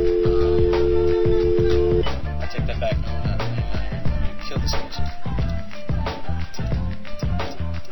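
A hip-hop track plays loudly and continuously, with a heavy, punchy bass beat and dense layered instrumentation, a steady tone holding through the opening seconds before the rhythm drives on.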